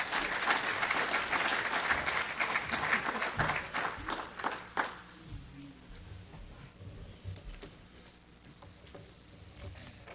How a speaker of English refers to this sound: So please give a warm applause for my pastor